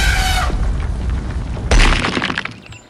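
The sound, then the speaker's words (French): A loud explosion boom as an elephant in a museum trips over an artwork, falls against the wall and explodes: a broad, hissing blast, a brief rumbling lull, then a second heavy low thud with crackling, shattering debris that trails off. No voices. “Et trébuche et tombe contre le mur et il explose.”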